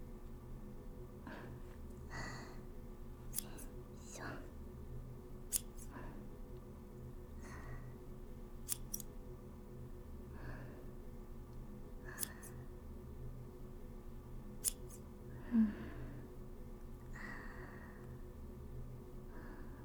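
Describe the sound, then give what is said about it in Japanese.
Crisp scissor snips near a person's ear, sometimes single and sometimes in quick pairs, spaced irregularly over a quiet, steady low hum with soft rustling in between. “間違えて耳にハサミ当てたら大変だから動かないでね。”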